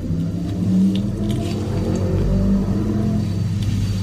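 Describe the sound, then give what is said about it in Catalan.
A motorcycle engine revs and rumbles as it leaves the parking garage of a residential building, its low drone rising and swelling mid-way before easing, with a boomy, enclosed quality and no voices. “en aquest cas jo crec que era la sortida, d'una moto des del pàrquing de l'edifici de casa teva.”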